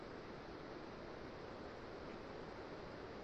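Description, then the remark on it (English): An airplane passing overhead, a steady, broad rushing roar that holds constant throughout with no one speaking. “Sorry, plane going over, just one second.”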